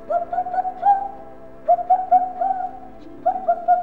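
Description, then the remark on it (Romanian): A bird perched on a branch calls out in three short bursts of warbling, cooing notes separated by brief pauses, fairly loud with no other sounds around it. “Se opri pe un ram și începu să strige.”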